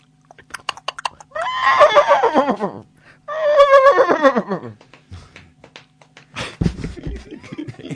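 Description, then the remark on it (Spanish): A horse neighs loudly twice in quick succession, each whinny a long, quavering cry that falls in pitch, followed by a short burst of snorting and shuffling noise. “Es manco el caballo, le falta una gamba.”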